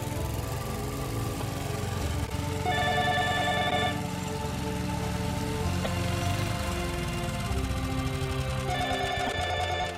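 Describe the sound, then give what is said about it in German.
A telephone rings in short repeated bursts, clear, over a steady background of patter like rain. No one speaks. “Telefon, Omi.”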